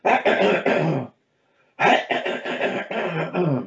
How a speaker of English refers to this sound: Still got that lingering cough.